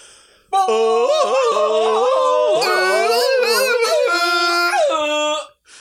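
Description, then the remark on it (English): A loud vocal imitation of a Tarzan jungle yell, a warbling, yodel-like cry whose pitch breaks up and down, held for about five seconds before cutting off. “Should we end the episode with our best Tarzan yell?”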